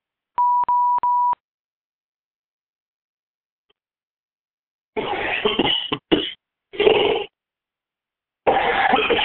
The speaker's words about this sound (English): Sorry for the delay. The dry coughing you're hearing is a reaction to one of the meds that I'm taking. So it's part of the gift of the process.